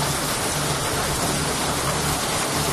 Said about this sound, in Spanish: Esto es la granizada tremenda que ha caído en zonas de la provincia de Castellón. Piedras del tamaño de monedas de un euro, nos dicen los compañeros desde ahí.